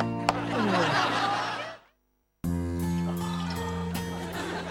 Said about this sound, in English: Hammond pours Ted a drink.